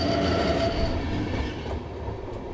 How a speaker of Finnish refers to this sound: Kun juna kiitää halki metsien ja peltojen, jäävät tehokkaan nettiyhteyden mahdollistavat tukiasemat jonnekin kauas sinne, missä on asutusta.